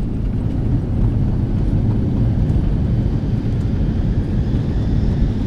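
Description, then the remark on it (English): A loud, steady low rumble of an airplane plunging during an in-flight emergency, just over an hour into the flight: a dense engine and cabin roar holding constant throughout with no voices. “Just over an hour into the flight, there is a slight bump, followed by a distinct click as overhead panels fall open and the oxygen masks unfurl.”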